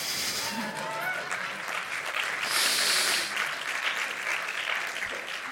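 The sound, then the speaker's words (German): An audience breaks into steady applause, a dense crackle of many hands clapping that swells briefly in the middle and carries on without a break for several seconds. “Möchte jemand klatschen?”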